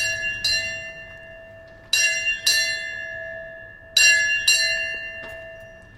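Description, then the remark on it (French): A house bell, rung by a sister to call someone in the house, rings in a patterned signal, with clear, bright strikes coming mostly in pairs. Each strike leaves a sustained metallic tone that hangs between the strokes. No voices are heard. “Si une sœur me cherche, elle sonne cette sonnerie-là.”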